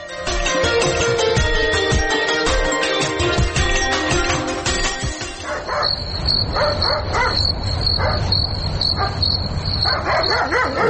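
A dog barks repeatedly in short bursts from midway on, against a steady high chirring of crickets, following a dense, noisy stretch of sound at the start.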